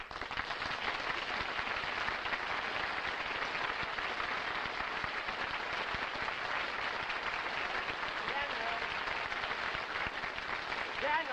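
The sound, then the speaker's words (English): Steady, dense applause from a large radio show audience as Dennis Day is introduced and walks on, a continuous crackle of many hands clapping at an even loudness throughout, with no pauses or voices breaking through. “Oh, that's because my applause is louder than yours.”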